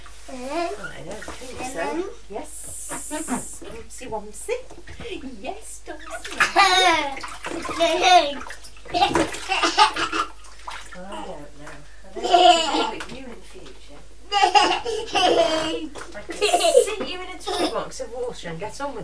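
Bathwater drips and splashes into a tub from a child's feet hanging out over the sides of the tub, in uneven bursts of spattering, with the child's babble and laughter heard at times between the splashes.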